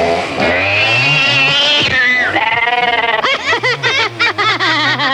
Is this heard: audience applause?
no